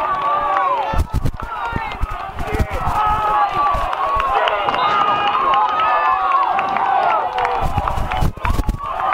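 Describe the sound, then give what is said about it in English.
A large football crowd at a game where the Wolves are playing cheers and shouts continuously, a dense roar of many voices with sharp thumps and bursts of noise breaking through, staying loud throughout with no clear speech. “The crowd is electric right now.”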